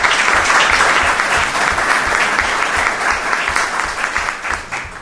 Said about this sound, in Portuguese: Uma grande salva de palmas, por favor.